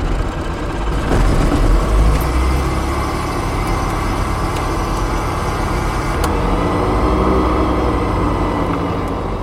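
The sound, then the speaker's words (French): A light touring aircraft's piston engine cranks and catches at start-up, settling into a loud, steady, rumbling idle, with a brief surge early on and a few clanks along the way. “Allons-y pour la mise en route. Du coup, on a personne de chaque côté. Et bien, c'est parti.”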